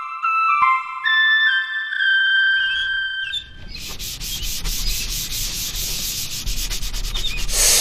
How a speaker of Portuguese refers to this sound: Clóvis parou de lixar a casinha de passarinho que estava fazendo